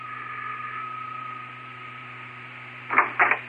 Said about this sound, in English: Well, I'll ring the bell, sir.